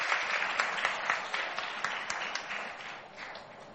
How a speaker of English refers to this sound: round of applause for both the beautiful girls.